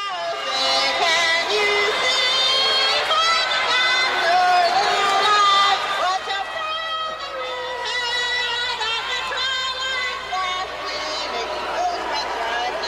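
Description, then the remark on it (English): A stadium crowd boos throughout as a solo singer belts out the US national anthem at a 1990 San Diego Padres game, her strained, wavering voice loud over the constant roar of the crowd. “As you can tell, the crowd was booing her, even.”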